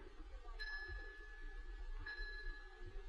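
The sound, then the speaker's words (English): A bell tolls twice as a knell, about a second and a half apart. Each high ringing tone lingers and fades over a low, steady rumble. “The bell invites me.”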